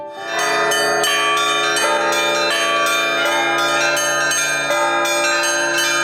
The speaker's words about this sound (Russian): Нижегородский Кремль. Вечер субботы. Несколько минут до наступления темноты. Исторический момент. Возрождение старинной традиции одновременного звона во все колокола кремлевских храмов. На звонницах готовятся.